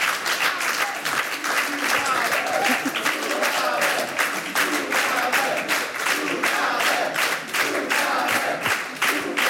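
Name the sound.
audience applauding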